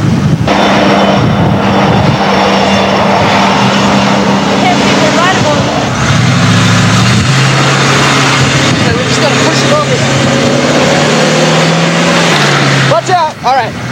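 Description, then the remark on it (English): A train rumbles past loud, its heavy engine drone filling the whole stretch, with steady low tones stepping down in pitch and brief metallic squeals near the end. “Here comes a train.”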